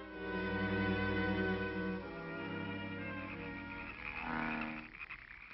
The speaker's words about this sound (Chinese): 哎呦，我这些青蛙真闹得我神经错乱了。